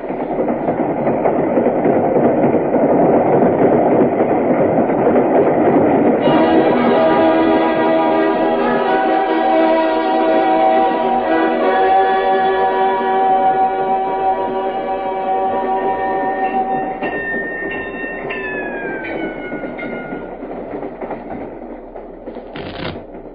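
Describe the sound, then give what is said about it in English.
A train rolls along the rails across Virginia at night with a loud, steady rumbling clatter, then a long sustained whistle chord sounds over it, bending in pitch near the end as the noise gradually fades. “That I first felt it, saw it, knew the dark, illimitable madness of its power one night on a train across Virginia.”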